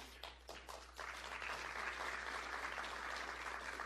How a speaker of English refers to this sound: Biggest applause so far.